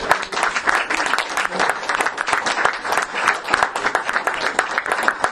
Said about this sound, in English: So again, I'd like to really give you a round of applause.